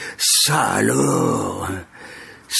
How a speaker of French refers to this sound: Pour clarifier la situation, je renifle très fort. Mes narines se pénètrent de son odeur. Une odeur piquante d'eau de toilette qui jure avec son cinéma.